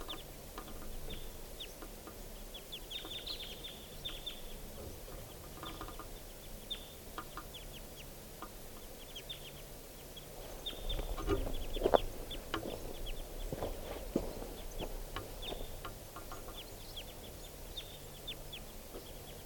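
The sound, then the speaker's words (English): A lone wild bird, broken away from two others, gives repeated short, high-pitched clucking calls over a steady background hiss, with a brief louder burst of rustling partway through. “One of the birds is broken away from the other two. And I'm pointed at that lone bird.”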